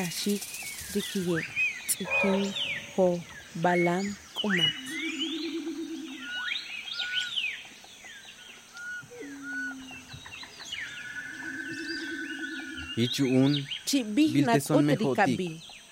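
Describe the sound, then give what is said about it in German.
Birds chirp, trill and call over one another in a busy, continuous chorus, mixed with lower cooing and croaking animal sounds. The calls are loud, swelling again near the end. “Redet, schreit, trillert, ruft, redet alle, ein jeder nach seiner Art. So sprachen sie zum Reh, zu den Vögeln, zum Puma, Jaguar und der Schlange.”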